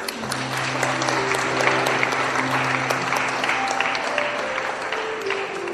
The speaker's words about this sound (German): Hervorragend, das ist ein Applaus wert.